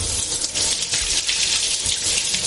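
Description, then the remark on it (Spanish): Water pours steadily from a tap opened at a kitchen sink, a continuous rushing hiss with slight splashing fluctuations, heard on its own without any voices. “Se detiene frente a la pila. Abre el grifo.”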